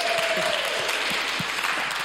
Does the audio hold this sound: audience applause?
yes